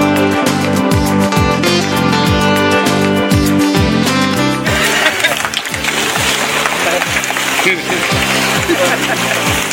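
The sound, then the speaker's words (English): Water splashes loudly partway through as a man is dunked in an immersion baptism, followed by a sustained wash of sloshing and crowd noise, with voices and pitched tones heard before the plunge. “it is now with your new family, my great honor and privilege, our brother, to baptize you in the name of the Father, the Son, and the Holy Spirit.”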